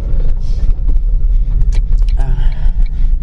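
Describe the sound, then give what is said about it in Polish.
A car pulling out of a parking lot, heard from inside as a steady, heavy low engine rumble with a few sharp mechanical clicks and a brief muffled voice near the end. “Mała tradycja się utarła, że większość moich podcastów prowadzę w samochodzie i zaczynam je w ogóle prowadzić w momencie, kiedy wyjeżdżam z parkingu.”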